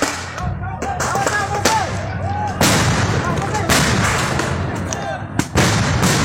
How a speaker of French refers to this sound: La police déboule avec tout son arsenal. Grenades de désencerclement et flashballs résonnent dans la nuit.